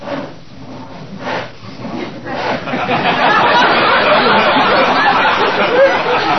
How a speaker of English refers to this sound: Sam, is that someone sawing wood? Is what someone sawing wood?